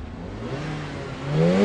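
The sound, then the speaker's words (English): A fast car's engine idles with a steady rumble in a car park in Dubai, then revs sharply near the end, its pitch climbing as it grows louder. No voices. “Revving up in the car park”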